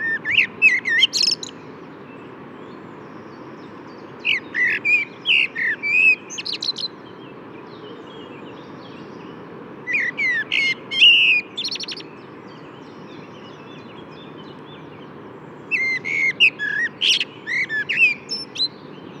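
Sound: common blackbird singing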